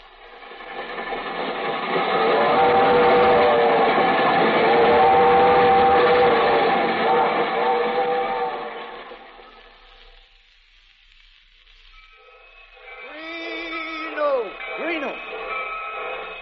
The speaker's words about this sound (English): The Albany Special leaving on track 6.